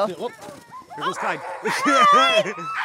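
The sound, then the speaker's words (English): Several harnessed sled dogs from a ten-dog expedition team bark and yip excitedly, their high, overlapping cries coming in quick bursts and growing louder and more frantic toward the end. “one of 10 dogs Lanning has for our expedition, slips out of his harness and bolts into the woods”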